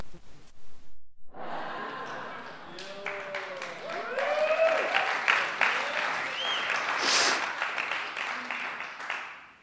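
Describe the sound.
An audience bursts into loud, sustained applause lasting several seconds, dense clapping with scattered whoops and raised voices rising through the middle before it tapers off.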